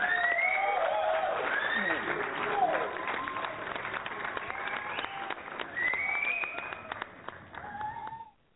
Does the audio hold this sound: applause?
yes